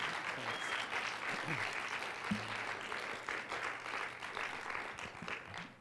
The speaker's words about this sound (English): From up here, you can hear the applause, but you can't see anybody.